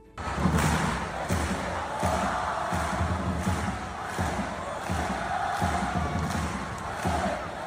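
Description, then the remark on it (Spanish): A large crowd of 15,000 at Anoeta stadium roars and chants continuously at a women's Copa semifinal in which La Real beat Atlético, with steady rhythmic thumps, like clapping or a drum, pulsing underneath the dense, loud cheering throughout. “Otro de los sonidos de la jornada de ayer tarde-noche.”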